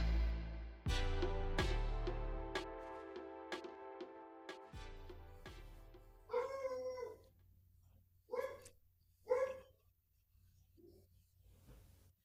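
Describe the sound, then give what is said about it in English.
After a few seconds of sustained musical notes, a dog named Molly barks several times in loud, drawn-out yelps with short gaps between them, ending with a faint final bark. “We're going to put Molly barking underneath your War on Pets segment.”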